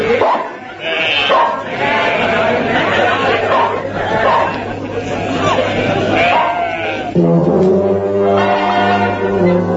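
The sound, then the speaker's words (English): A crowd of sheep bleats over and over, many wavering cries overlapping into a loud, constant chorus, with one long, drawn-out bleat near the end. “All these sheep came in. Took me hours to get rid of them.”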